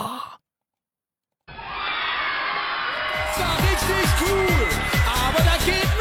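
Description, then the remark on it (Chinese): After a short silence, a burst of loud applause and crowd cheering starts and keeps going steadily, with repeated high whoops and sliding shouts rising over the clapping, welcoming a guest live streamer onto a show. “让我们用热烈的掌声欢迎他。”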